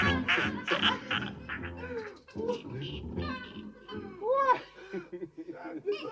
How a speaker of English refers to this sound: this cat is something.